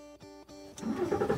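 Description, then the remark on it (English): A car engine cranks with a steady hum broken by two short stutters, then catches and surges into a louder, rough roar as it revs up, with no voices; the car is driving from El Paso into Mexico. “Driving into Mexico from El Paso is straightforward.”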